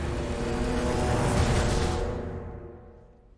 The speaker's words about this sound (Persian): اون هلیکوپتر نمیتونه فرود بیاد، همه رو اون پشت ببر، یه جوری سوارشون کن.